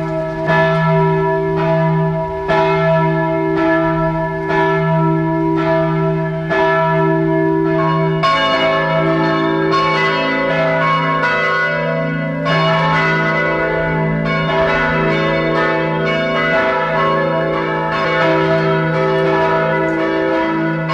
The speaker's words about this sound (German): Es ist 12 Uhr. Sie hören die Glocken der Pfarrkirche St. Michael in Bad Eisenkappel in Kärnten.